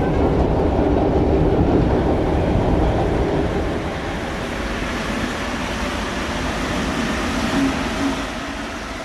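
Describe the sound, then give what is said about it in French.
A metro train rumbles steadily along the rails, a loud continuous roar with faint rhythmic clatter that eases slightly midway, with no voices. “Il y a plusieurs sortes de métros, vous savez, il y a le premier métro.”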